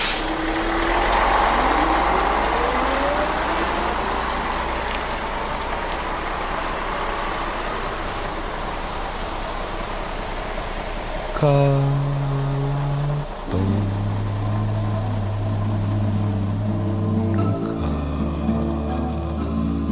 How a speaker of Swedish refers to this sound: Bussen rör upp ännu mer damm och åker sin väg.